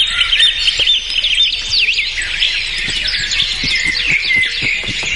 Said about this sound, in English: The key is you got to be listening to the bird song in a forest area.